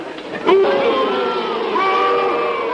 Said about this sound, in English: The audience stands, applauding.